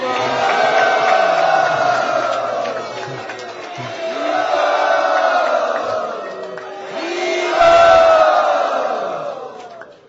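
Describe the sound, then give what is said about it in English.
A large crowd loudly shouts "hari bol" in unison, the massed voices swelling in three long waves, with a possible wash of applause beneath. “Not just by a big hari bol and applause.”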